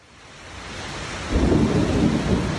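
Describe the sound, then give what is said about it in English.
Steady rain hisses loudly as a low rumble of thunder builds and rolls in partway through, the storm growing heavier, with no voices. A 5 o'clock summer thunderstorm on the east side of Orlando after a 93-degree day, recorded on a phone. “Another 5 o'clock summer storm is ripping through the east side of Orlando.”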